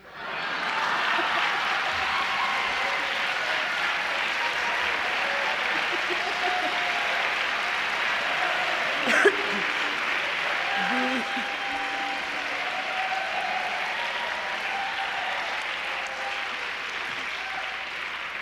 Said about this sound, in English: You notice it's only the women that clap.